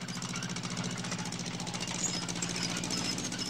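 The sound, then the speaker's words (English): A tractor engine chugs steadily as it pulls a trailer piled with crates of grapes through a vineyard, its rapid, even knocking rhythm holding constant throughout with a low throbbing rumble and no voices. “Back at the vineyard, the young brunette drives a tractor pulling a trailer piled with crates of grapes.”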